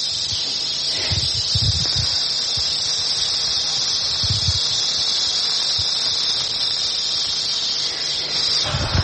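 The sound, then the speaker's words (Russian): A captive live eastern diamondback rattlesnake rattles in a steady, unbroken high buzz lasting the whole stretch, loud, with a few soft low thumps underneath and no voices. “Это ромбический гремучник, самая опасная змея в США, по Флориде же.”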